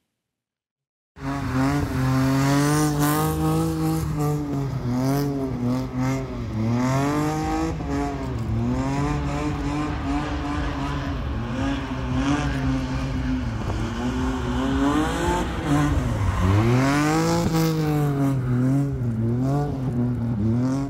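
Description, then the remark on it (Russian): Drift cars rev hard without a break, engine pitch sweeping up and down in loud, wavering surges while tires squeal beneath the roar. No one speaks. “Дрифт по-мокрому построен на иных навыках и лишь повышает класс гонщика, но лишает одного из атрибутов – запаха жареной резины.”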